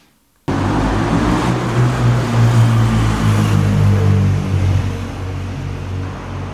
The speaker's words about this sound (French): Nous sommes à Saint-Laurent-du-Pont, sur la route de Fourvoirie. À ma droite, un flot de voitures circule au rythme des feux sur l'avenue Jean-Jaurès.